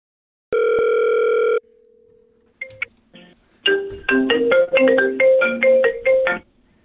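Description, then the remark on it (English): A telephone rings: one long steady electronic beep, a short pause with a few clicks, then a loud, bright, melodic ringtone plays a quick run of notes. No one speaks. “How is it ringing and I'm talking to you?”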